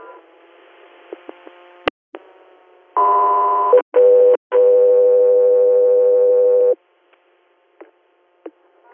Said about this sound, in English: Echo 3 Air, standby for tone.